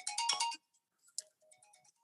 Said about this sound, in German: Heb mal kurz ab dein Handy